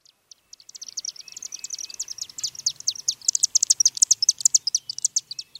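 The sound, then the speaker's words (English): Rapid, high-pitched twittering chips from chimney swifts, slender acrobatic birds, a dense chattering stream of quick calls that builds and grows busier, with no voices. “That rapid tweeting you're hearing isn't a savvy social media user. It's a slender acrobatic bird called the chimney swift.”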